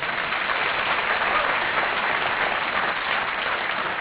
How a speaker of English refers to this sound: like your chairman said, hold your applause till I'm finished here.